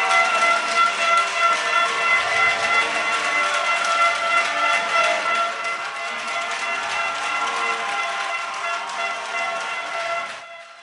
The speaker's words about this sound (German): Wir haben ja ein bisschen Probleme mit dem Ton, weil die Potsdamer vor uns halt mit Tröten und Klatschpappen doch relativ laut sind.